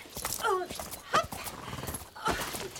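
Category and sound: animal, horse galloping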